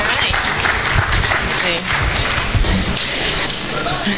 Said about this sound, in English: and give her a round of applause, and hope you guys can enjoy this.